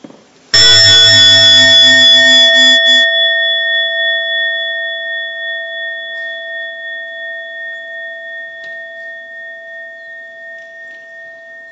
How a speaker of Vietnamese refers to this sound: Thì khi mà nghe tiếng chuông tròn đầy thì mọi người bắt đầu thở vào và thở ra cho thật sâu.